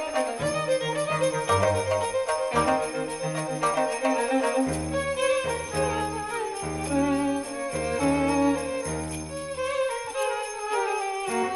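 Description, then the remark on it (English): Bells ring out in a busy, continuous musical passage, many bright overlapping tones layered over low sustained notes, loud throughout with no voices. “It's great to play the bells, too. You always feel better after you play bells.”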